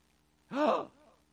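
One short, sharp voiced gasp of alarm, fairly loud, trailing into a brief softer breath, performed by a person imitating a technician's startled intake of breath, with no other talk.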